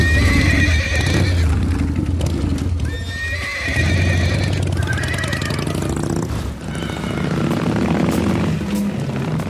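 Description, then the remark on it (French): Several thoroughbred horses at an auction sale at the Élie de Brignac establishment beside the racecourse whinny and neigh excitedly in close succession, their high calls overlapping above a steady low rumble and shuffling hooves, with no talking throughout. “On achète bien les chevaux.”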